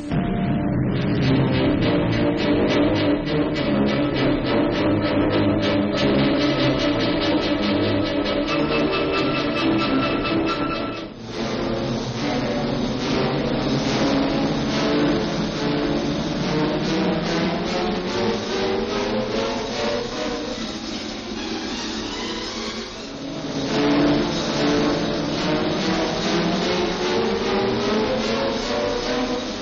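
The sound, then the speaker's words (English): Flying boat engines roar steadily and loudly throughout, a dense droning rumble whose pitch shifts and swells as they power up for takeoff near Hamburg, bound for Havel Lake in Berlin, each boat carrying 5 tons of supplies, with no voices. “You are clear to take off”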